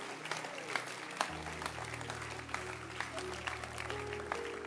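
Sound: audience clapping hands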